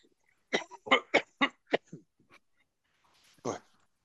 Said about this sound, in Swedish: Nu ska jag hosta här, ursäkta.